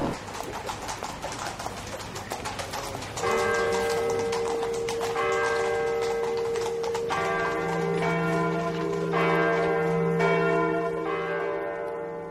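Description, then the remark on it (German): The Thomas church bells ring out loudly with long, overlapping tolls that sustain and layer over each other, starting after a few seconds of busy outdoor city ambience with faint clopping and birds. “Auch 100 Jahre später läuten noch die Thomasglocken, nur über eine andere Stadtakustik hinweg.”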